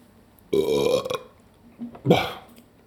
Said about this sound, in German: Sie säuft derbe viel und rülpst